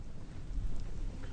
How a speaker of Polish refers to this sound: Ognisko tylko słychać.